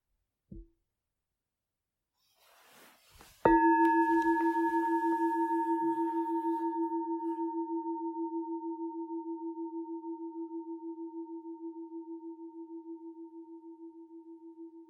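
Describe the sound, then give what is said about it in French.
During a guided mindfulness meditation, a meditation bell is struck once to invite participants to stand and bow. It gives a deep, steady tone with bright overtones that hums and slowly fades over many seconds. A faint tap and soft rustling come just before the strike. “Je vais vous proposer après de vous lever comme si nous étions au dojo, dans la salle de méditation, à la prochaine invitation de la cloche, et de nous saluer avant de nous rasseoir.”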